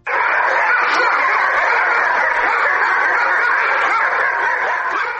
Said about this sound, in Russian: На базе кинологического центра национальной полиции Донецкой области царит ажиотаж. В считанные секунды спокойная компания служебных собак как по сигналу подняла громкий лай.